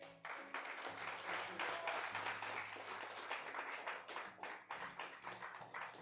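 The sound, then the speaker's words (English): An audience claps their hands in praise of God before leaving a church service, sustained, dense applause, many hands striking at once in a loud, steady wash of claps with some rhythmic pulses near the end. “Give God another hand clap of praise before you leave.”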